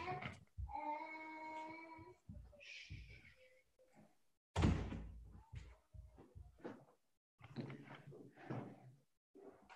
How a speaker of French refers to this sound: Alors, je vais juste fermer la porte pour ne pas être dérangé. J'arrive.